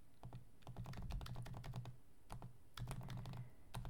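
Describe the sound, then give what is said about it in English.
Rapid clicking keystrokes on a computer keyboard in a sick bay, fairly loud, in two brisk bursts with a short pause between, plus a final tap or two; no voices. “I just had to finish typing that up.”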